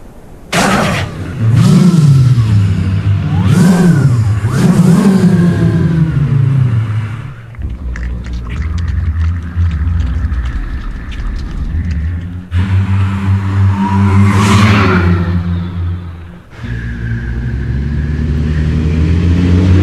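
A Honda Civic engine, from a 2006 Honda Civic advert, revs repeatedly, its pitch sweeping up and down in loud surges, then settles into a steadier rumbling drone with sharp whirring bursts, with no talking.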